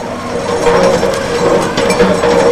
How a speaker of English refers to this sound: Wilmington residents are hearing the sounds of road repair on 3rd Street, along with construction around town.